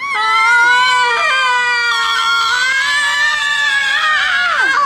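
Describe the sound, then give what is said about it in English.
Abby and Ilana, the two stars of Comedy Central's Broad City, let out a long, loud, high-pitched excited scream on meeting Hillary Clinton at her Brooklyn campaign office, sustained for several seconds with wavering pitch and a sudden dip near the end, with no other sounds. “They scream in excitement.”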